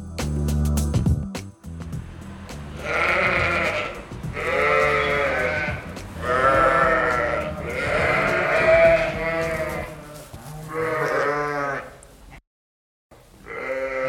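Dairy sheep and goats bleat repeatedly on the Errington Cheese farm at Wolston Bray Head, near Biggar in South Lanarkshire, a chorus of long, wavering calls overlapping one another with brief pauses between, loud and clear over faint farmyard background noise.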